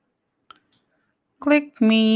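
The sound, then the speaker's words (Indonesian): Two quick, light mouse clicks sound close together in near silence, then a person starts talking loudly right after. “Klik me lagi, mana ini?”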